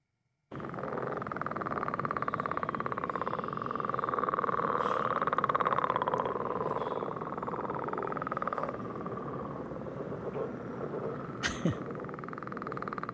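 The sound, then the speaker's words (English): Northern leopard frogs of the vernal pools calling in a steady, dense chorus of rattling, snore-like croaks that runs without pause for the whole stretch, with a brief sharp click near the end and no talking. “Well, let's listen to a little more of the denizens of the vernal pools, the northern leopard frog.”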